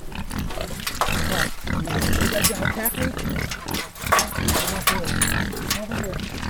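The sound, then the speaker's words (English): Several pigs grunt and snort on a farm in a steady, overlapping chorus, the rough guttural noises continuing loudly throughout with only brief dips. “Larry raises everything from pigs to sheep to geese.”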